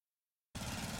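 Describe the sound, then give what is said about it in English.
After half a second of silence, a lawn mower engine suddenly kicks in as someone mows a lawn outdoors in blazing hot, dry weather, a loud, steady, buzzing drone with a rough low rumble that carries on to the end. “I'm just mowing the lawn.”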